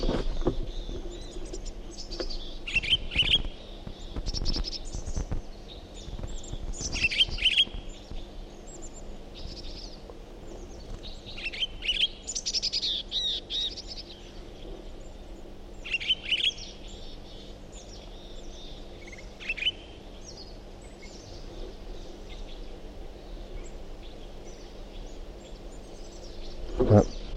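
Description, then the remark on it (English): Pine grosbeak song, recorded from a different individual bird, in scattered, high warbling phrases that come and go over about half a minute, fairly soft against a steady low hum and a faint insect-like buzz. “Start recording the Pine Girl Speak again. Different bird.”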